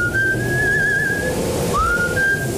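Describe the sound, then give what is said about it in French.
A thin, high whistle of a moderate wind through drafty old house windows holds a steady pitch over a constant airy rush, drops out briefly, then slides back up and continues, fairly loud. “C'est parce que ça siffle sur un moyen temps.”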